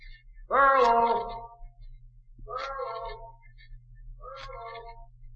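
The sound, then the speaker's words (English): A loud, drawn-out shout calling for a missing man rings out in Echo Valley, then comes back twice off the cliffs around the waterfall, each echo fainter than the last, about two seconds apart, over a low steady hum. “Well, that's one reason this is called Echo Valley. The cliffs around the waterfall down the trail make a perfect sounding board.”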